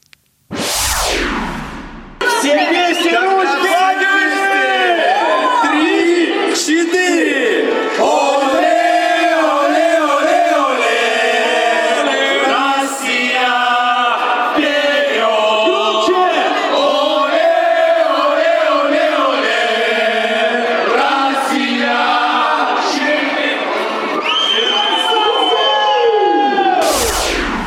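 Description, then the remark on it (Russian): A huge crowd roars and chants in unison, loud and unbroken for nearly half a minute, with rising and falling pitch sweeps at the start and end, as hosts warm up the crowd before the opening match starting at 18:00. “А вот перед этим, перед тем, как начался в 18:00 матч открытия, ведущие заводили толпу.”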